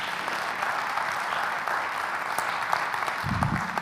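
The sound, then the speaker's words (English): Sustained applause from an audience at a Sunday church service held in a high school, a dense steady patter of many hands clapping at an even loudness throughout, with a brief low thump near the end. “And I want you to give a round of applause to all the men and women who jump in and make that happen.”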